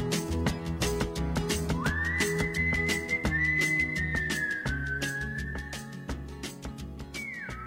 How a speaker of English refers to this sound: He's always whistling.